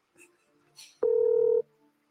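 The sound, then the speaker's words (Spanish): A single steady electronic telephone tone sounds clearly for about half a second as a phone call is placed, preceded by brief faint murmurs and a soft rustle; the call goes to voicemail. “Cuando sale el voicemail y tú llamas y sale el voicemail, chacho, eso es.”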